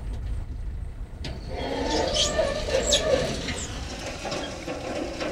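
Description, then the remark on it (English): Pickup truck engines rumble steadily and grow a little louder as they approach, bringing in yard waste at a compost site, with faint birds chirping in the background outdoors. “In the meanwhile, pickup trucks continue to bring in yard waste.”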